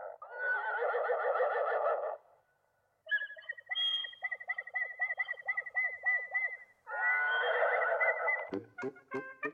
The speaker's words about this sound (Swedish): Nu är det söndag och folk står i kö för att komma in till tävlingarna på Travvalla. De stora tävlingshästarna hångnäggar när de ser att en liten åsna ska tävla med dem.